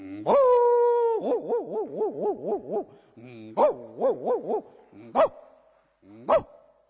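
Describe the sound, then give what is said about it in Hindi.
A person's voice imitates a big dog, starting with a long drawn-out tone, then quick wavering yelps in two bursts, ending with two short, sharp barks, fairly loud. “इससे देखे बड़ा कुत्ता।”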